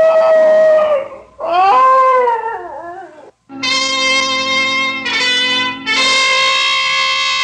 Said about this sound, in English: Now, what's all that? Why, it's the Higley dog. Patsy. Oh, here, Patsy. What's the trouble, doggy? Miss your mistress, is that it?